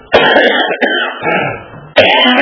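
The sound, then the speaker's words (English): A string of harsh, rasping coughs close to the mic, a couple of loud bursts with a rough, throaty rattle between them, ending on another sharp cough. “My wife heard me cough like that.”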